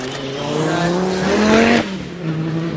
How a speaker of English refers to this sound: So I'm just wondering whether to go, let's try one more with this car. It's an Audi. Come on.